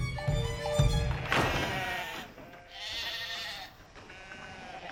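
Several sheep bleat one after another, loud, their wavering cries overlapping at times, with faint low thumps underneath and no voices.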